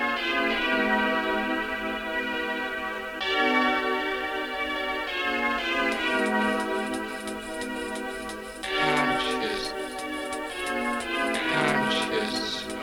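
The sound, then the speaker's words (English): A massive, loud ringing bell struck about every three seconds, each rich, shimmering tone sustaining and overlapping the next, with no voices present. “As we wheel and come again for the massive bell.”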